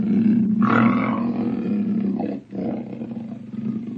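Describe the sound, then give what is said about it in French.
A panther, a wild feline, roars loudly in two long, rumbling growls, the first swelling for over two seconds before a brief pause and a second deep roar, with no one speaking. “Je vais vous parler d'un animal sauvage qui s'appelle la panthère.”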